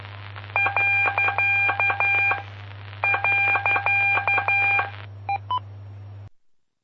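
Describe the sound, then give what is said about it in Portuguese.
Rapid Morse code telegraphy beeps sound in two long keyed bursts, then a few isolated tones, sent during telegraphy lessons from the city of Rodeio. They are fairly loud over a steady low electrical hum, with no one speaking. “Com as aulas aí de telegrafia.”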